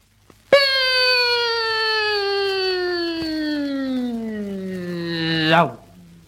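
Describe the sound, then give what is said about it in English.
A voice imitates Sir Malcolm Campbell's famous Bluebird land speed record car: one long, loud, steady engine-like whine for about five seconds, sliding slowly downward in pitch before dropping off sharply as if racing past. “Second, Sir Malcolm Campbell's famous bluebird.”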